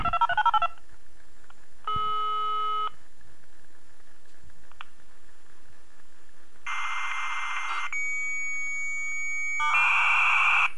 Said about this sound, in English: So let's listen to a connect. So we're going to listen to what kind of connect? That should be now HSD mode connect of 16,800 bits per second. Oh yeah, it's from my old modem.